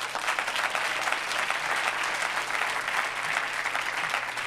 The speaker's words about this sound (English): This is who we are. If this is who you are, clap your hands.